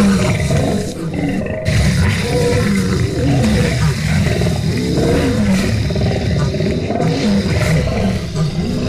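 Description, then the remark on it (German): A lion roars loudly and deeply, its rumbling growls rolling on almost without pause for several seconds, full-bodied, with only a brief dip near the start. “Aber sonst auch die Tiergeräusche, also auch vor allem für die Kinder. Die Lieblingstiere sind so, also der Löwe ist vor allem sehr weit vorne.”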